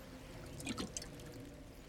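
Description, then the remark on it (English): Water pours briefly into a container, a short gurgling splash over a steady low background hum, fairly quiet, with no one speaking. “Yeah, I'll get my water first.”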